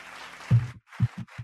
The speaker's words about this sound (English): Fuck the golf clap. That way I feel weird.